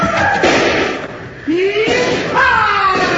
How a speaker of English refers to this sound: Here, I'll get that door open for you.